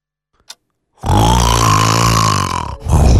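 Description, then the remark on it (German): A man snores loudly, one long rumbling, rattling inhale lasting about two seconds, followed by the start of another harsh snore after a brief pause. “Wir schnarchen seit Jahrtausenden ja nur, um euch vor wilden Tieren zu beschützen.”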